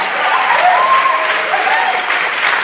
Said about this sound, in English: why don't you guys stand? Big round of applause. There we go.